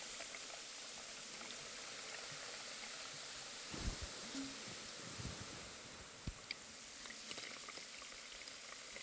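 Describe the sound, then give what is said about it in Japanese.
Carbonated water fizzes steadily with dense, crackling bubbles as it is slowly poured over a head and behind the ears, a continuous hiss punctuated by a few soft pops and low thumps, with no voices. “寝起きのシュワシュワじゃ。”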